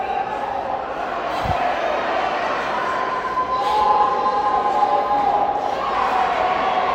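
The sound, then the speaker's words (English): A packed, sold-out arena crowd roars steadily throughout, a dense wash of voices with sustained whistle-like tones riding on top and one low thud early on. “God, sold out crowd. All of that. It's just beautiful.”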